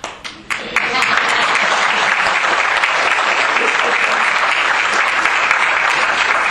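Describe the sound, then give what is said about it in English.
A room full of people bursts into sustained clapping, starting with a few scattered claps and quickly swelling into steady, dense applause that continues loudly to the end. “As long as I get an applause.”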